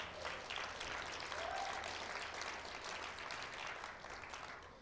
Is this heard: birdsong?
no